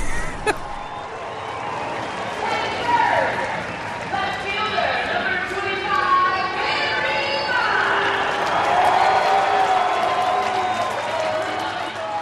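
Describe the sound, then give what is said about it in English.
A dense hometown ballpark crowd roars steadily for twelve seconds as the starting lineup is announced. Most of the crowd cheers and applauds in support of Barry Bonds, with a few scattered boos mixed in, in a loud, unbroken wash of voices and clapping. “There are a few boos when the starting lineup is announced, but most of the crowd is behind Bonds.”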